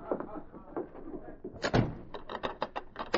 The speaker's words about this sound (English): As the bolt clicked behind him, the sergeant noticed another door on the far side of the room, a door that led to the outside.